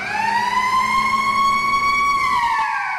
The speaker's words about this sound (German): Die erste Sirene ertönt um Punkt 3 Uhr.